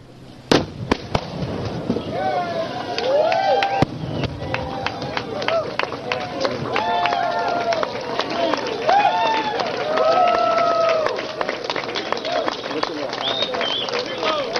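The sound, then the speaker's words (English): A few sharp booms of a reenactment mortar salvo fired toward Fort Sumter in Charleston, South Carolina, marking the 150th anniversary of the start of the Civil War, followed by a steady swell of crowd applause mixed with cheers and overlapping voices that carries on loudly to the end. “There's applause, but it was a terrible war.”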